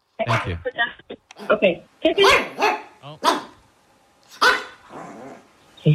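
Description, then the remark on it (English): Puppies bark into a phone held up to them, a quick, irregular string of short, sharp yaps and yips, fairly loud, with brief gaps between bursts over several seconds. “Put the phone up to the dogs.”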